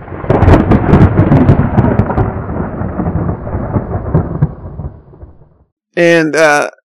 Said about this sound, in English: And then I realized it was thunder. And I was like, oh my God, it was lightning. It was only lightning. I mean, the relief that washed over me was beyond description. And then the thunder came again.